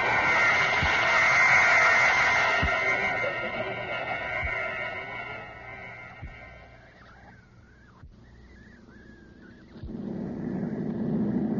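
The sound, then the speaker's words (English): A large chartered airplane takes off: a loud, droning engine roar with steady tonal hums swells and then slowly fades, leaving a wavering whine before a low rumble returns. Faint regular thumps recur throughout. “Beautiful takeoff. Yes, good pilot.”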